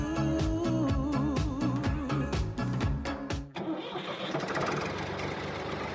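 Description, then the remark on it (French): A heavy tractor engine cranks with a rhythmic, stuttering whir for a few seconds, then catches and settles into a loud, steady rumbling run, with no voices. “Eh bien, allumez votre radio, car de 13 à 14 heures, ça groove dans le tracteur avec Stan.”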